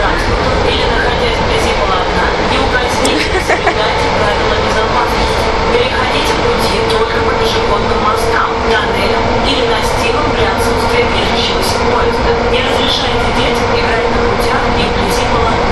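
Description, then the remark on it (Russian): Steady, loud rumble of a moving train heard from inside a carriage, with continuous rolling noise, metallic rattles and faint clicks throughout, and murmured voices in the background. “Не, мы не сможем, мы внутри поезда.”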